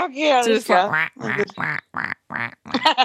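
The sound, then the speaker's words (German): A person imitates a duck with a quick series of nasal, voiced quacks, six or seven short bursts, fairly loud, with brief pauses between them. “Ja, quack, kannst du nicht machen, weil du hast keinen Schnabel.”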